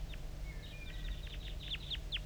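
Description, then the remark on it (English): Rapid, high-pitched chitter notes from wild birds calling near decoys at 10:23, a quick irregular series of short descending chirps with a few thin whistled tones mixed in, over a low steady rumble with no voices. “I'm getting a lot of calling from the decoys, and those are chitter notes of the wild bird.”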